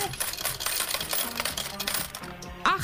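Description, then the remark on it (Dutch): A rapid, continuous clatter of 48 metal coins tumbling out of a machine payout tray, a dense jingling cascade lasting a few seconds, fairly loud, with no talking over it. “48 muntjes, Frans.”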